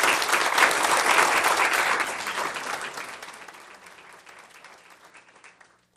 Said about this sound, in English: We deeply appreciate their dedication to the safety and welfare of Portland citizens. Let's give them a great round of applause.